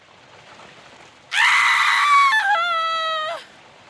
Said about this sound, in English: But all of a sudden, a scream!